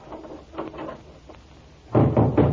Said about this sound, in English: Quick, Charlie. Shut the door. I have the key.